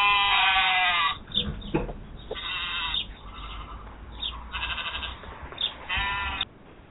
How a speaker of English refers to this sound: I just love them. The little sheep. Oh, they're all pretty to look at. They're not very bright.